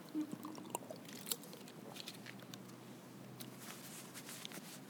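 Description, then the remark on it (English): Someone takes a quiet sip of a drink, with soft wet mouth sounds, small clicks and a faint swallow against a low background hum. “Let me just take a sip of this because my mouth is getting dry after drumming.”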